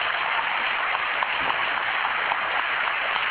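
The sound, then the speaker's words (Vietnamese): A church audience bursts into steady, dense applause to welcome a fellow member back to their community, many hands clapping together in a loud, continuous wash of sound that holds evenly from start to finish, with no voices standing out. “tất cả chúng ta vào trong nhà thờ cho một tràng vỗ tay thật lớn để chúng ta đón người anh em của chúng ta.”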